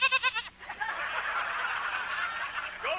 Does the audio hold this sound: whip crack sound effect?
no